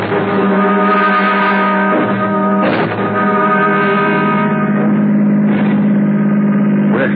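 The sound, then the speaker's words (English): A car engine runs steadily with a low, even drone, broken by a few brief mechanical clunks before the motor pulls away. “Okay, shall we step over to the car?”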